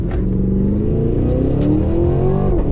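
An Escalade V SUV weighing nearly 3 tonnes launches at full throttle, going from 0 to 100 in 4 seconds, its engine roaring loudly and steadily climbing in pitch as it accelerates, with no one talking over the sound.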